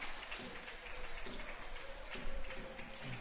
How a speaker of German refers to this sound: Freundlicher Beifall von den Rängen.